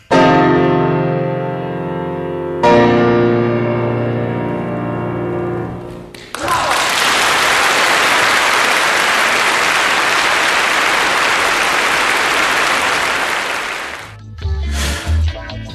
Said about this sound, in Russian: Ну, аплодисменты. Значит, я хочу, чтобы гость вслушался и рассказал о своих впечатлениях и вообще об отношении к аплодисментам. Вот давайте мы их послушаем.